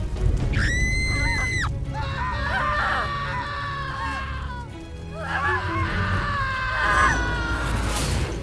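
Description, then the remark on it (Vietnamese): Anguished screams and wails from several tormented people being punished in hell overlap in shrill, rising and falling cries, one sharp shriek first, then repeated wavering moans over a low rumbling background. “Chẳng hạn như trong chuyện cổ tích Thủ Huồn, địa ngục đã được phát họa là không gian đầy rẫy tiếng la hét, kêu khóc của những người đang mang tội, đang chịu những hình phạt man dợ như mổ bụng, móc mắt, cắt tay.”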